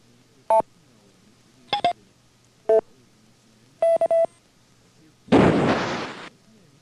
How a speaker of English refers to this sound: Here are some more examples of courtesy tones that can be generated by the controllers.